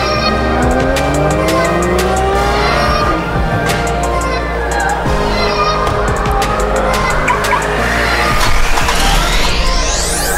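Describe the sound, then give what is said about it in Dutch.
Loud car engines rev and rise in pitch as vehicles accelerate past on the Circuitpark Zandvoort racing circuit during the EV Experience, with squealing tires and a constant roar of traffic, ending in a sharply climbing whine. “En deze editie wordt opgenomen, zoals ik al zei, op de EV Experience op Circuitpark Zandvoort.”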